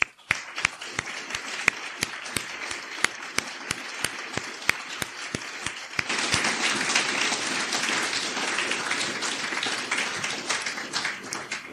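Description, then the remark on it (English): Scattered, sharp hand claps at a steady pace build after a few seconds into full, dense applause from an audience at an event, welcoming the man whose work made the event happen, sustained at moderate loudness until the end, with no talking. “And yeah, I'd like to give him a warm welcome, applause, sorry, for doing that.”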